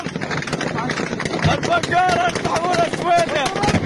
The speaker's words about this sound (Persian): ادامه درگیری‌ها در سوریه، این صدای ویدیوهایی است که بامداد جمعه از تیراندازی میان نیروهای مسلح دروزی و قبایل بادیه نشین سنی منتشر شده است.